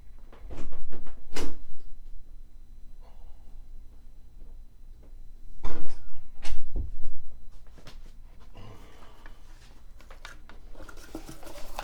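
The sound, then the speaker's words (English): A door clicks and bumps open and shut, with a few sharp knocks and thuds, then softer rustling and shuffling as items left outside the door are picked up and carried. No one speaks. “Well, I left them outside the door because I didn't want you to see them.”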